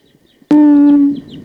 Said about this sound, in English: It's recording. There's a wild bird here. Wild bird.